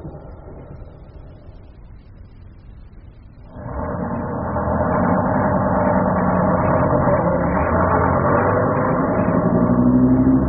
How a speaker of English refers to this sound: Oh, no! That was the last bus home and we've missed it.